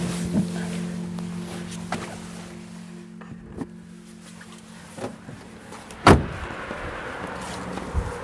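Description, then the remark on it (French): Two or three fishing boats start their engines and idle with a steady, low diesel drone at a quay in the port of Le Guilvinec at night, joined by scattered clunks and knocks, one sharper bang standing out near the end. “Deux, trois bateaux commencent à allumer leur moteur sur le quai”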